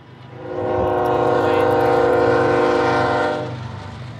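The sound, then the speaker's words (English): A passing train sounds a long, steady horn blast for about three seconds over a low rumble of rail noise, loud, with no one speaking, along the train tracks in Bay Point by the Delta, Contra Costa County. “walks along the train tracks in Bay Point by the Delta.”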